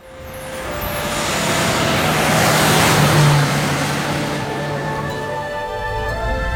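A jeep's engine roars up and settles into a steady driving rumble that swells to a peak midway, then holds with a faint whine on top. No one speaks.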